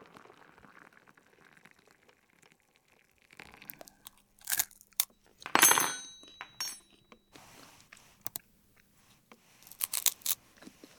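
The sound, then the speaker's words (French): Loud crunching of a dry snack being chewed at a computer keyboard, in irregular bursts with brief pauses between bites, plus a few faint clicks and rustles in the background. “Oh putain, des miettes sur le clavier.”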